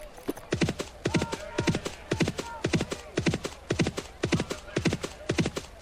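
A steady, rapid clip-clop of horse hoofbeats repeats in paired strikes throughout, fairly loud, a looping sound effect from a computer horse racing game as a horse moves along the track when the space bar is hit, with nothing else over it.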